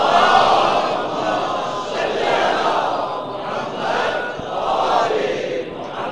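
A large crowd recites salawat upon Muhammad and the family of Muhammad in loud, unison chanting, voices swelling and falling in waves across several phrases, a dense roar of many people sustaining the recitation throughout.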